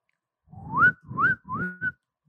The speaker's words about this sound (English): Can we hear some whistling?